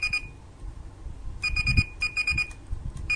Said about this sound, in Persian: آلارم آن 6:06 صبح من تنظیم کردم. دستگاه به صدا در میاد و دمای بیرون و داخل رو اعلام میکنه.